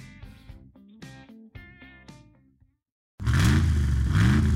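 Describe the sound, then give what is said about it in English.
A few bright musical notes ring out, then after a brief silence the big Hemi V8 engine of a Ram truck roars to life, revving loudly with rising, throaty surges. “With unrivaled Hemi V8 power and a max brake towing capacity of up to 4.5 tons.”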